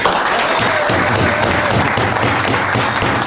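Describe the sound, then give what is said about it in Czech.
Sustained audience applause, a dense steady patter of many hands clapping at an even, loud level throughout, with faint voices mixed underneath. “Můžete zatleskat, nebojte se.”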